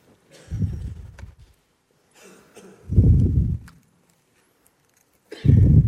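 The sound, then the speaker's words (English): Three heavy, rushing breaths blown straight into a microphone, each a loud low-frequency whoosh lasting about a second, separated by quiet pauses, with no talking. “A bit loud, I'm breathing.”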